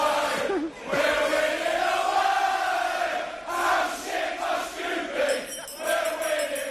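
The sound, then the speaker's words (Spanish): A large crowd of English football fans chants 'How shit must you be, we're winning away' in unison, loud and steady, with long held notes and short breaks between phrases over a roar of many voices. “Cántico número 3 que pusimos ayer.”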